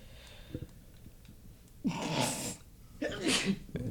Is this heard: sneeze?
yes